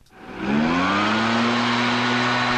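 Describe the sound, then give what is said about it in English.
A gas-powered leaf blower starts up and quickly climbs to a loud, steady whine, its droning engine tone holding with a rushing roar of air underneath. “Another state considering a ban on gas-powered leaf blowers.”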